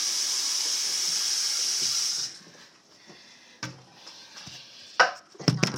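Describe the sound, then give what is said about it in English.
Oil pours back into a bottle in a steady, hissing stream for about two seconds, then stops, followed by a few sharp clinks and knocks of the bottle being handled. “Okay, I'll tell you what, I'm going to pour this back in.”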